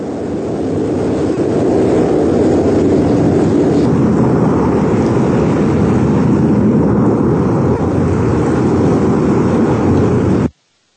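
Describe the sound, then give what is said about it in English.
A steady, loud engine drone with a broad low rumble from a commercial airplane's combustion propulsion runs unbroken for about ten seconds before cutting off abruptly, with no voices. “What do you hear there? Combustion. Propulsion sound.”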